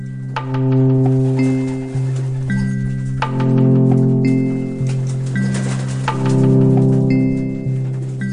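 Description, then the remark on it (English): A dense chorus of pigeons cooing, low throaty coos overlapping in steady waves, with occasional higher chirps and whistles above them and no talking. “You marry a man, you discover that he might love his pigeons more than he loves you, or at least seems to.”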